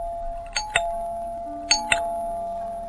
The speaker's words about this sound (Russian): Дети еще спали, когда в дверь настойчиво позвонили.